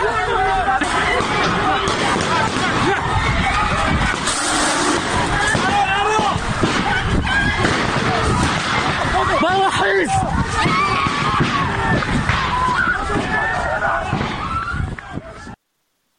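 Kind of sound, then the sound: crowd, crowd chaos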